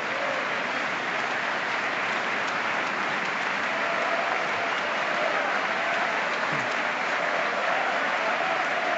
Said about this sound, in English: Republicans did stand up and applaud Macron, but they were a little bit uncomfortable, as you might expect on something like that.